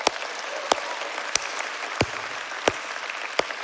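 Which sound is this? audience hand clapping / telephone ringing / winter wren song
audience hand clapping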